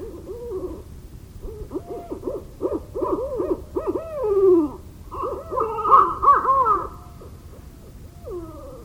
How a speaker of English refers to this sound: Each call is played twice, once to the north and once to the south, broadcasting for a range of 800 meters. This is our beloved barred owl, the bird we wait for. It's our dream bird.